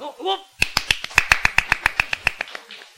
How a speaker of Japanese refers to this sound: そして次の演者がこう、あそこ扉が開いて出てくる。この顔を見た瞬間に期待を込めた拍手をするんですね。